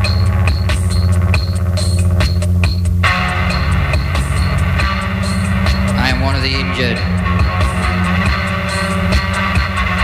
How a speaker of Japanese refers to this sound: これ、ノイズバンド、これちょっとね、 はい、 すごいんだよ。 へぇ、うん、 これ70年代、インドスタリ、インドス、インド、インダストリアルバンドっていうのか、こういうの、ジャンル。 はい。 もうノイズで、すごいの、もう前衛的で。